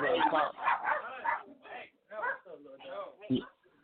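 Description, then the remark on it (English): A Chihuahua barks and yips in rapid, shrill bursts, about eight sharp outbursts in a few seconds, with a voice faintly underneath. “My dog's going ape shit. Chihuahuas, you know what I mean?”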